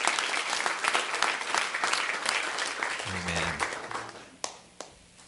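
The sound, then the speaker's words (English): Many hands clap together in a dense, steady wash of applause given as praise to the Lord, thinning out toward the end, leaving a few last sharp claps and a low hum underneath. “So let's give the Lord a hand clap of praise for intervening in that situation.”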